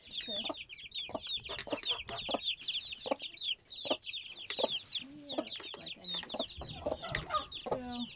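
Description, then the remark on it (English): A broody hen clucks in low, repeated bursts, surrounded by a constant flurry of high, rapid peeping from the day-old chicks she has adopted. “And then we got a broody hen here who adopted some day-olds.”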